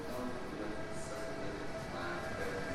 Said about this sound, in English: As the train pulls away